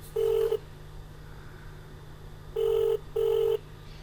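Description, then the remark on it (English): A ringback tone repeats over a phone line: three steady electronic rings, each about half a second long, separated by pauses, heard alone with no one answering. “Back to 6 minutes already and they won't pick up the phone.”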